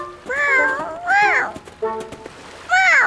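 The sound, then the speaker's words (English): A cat meows three times, loud drawn-out cries with rising and falling pitch, separated by short pauses with a few faint clicks in between. “Here's a cat.”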